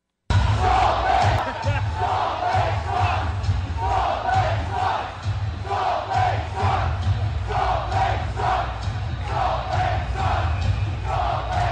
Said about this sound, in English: So those are Phoenix Coyote fans at the time screaming, Salt Lake sucks, Salt Lake sucks, Salt Lake sucks, because that's where their team is moving.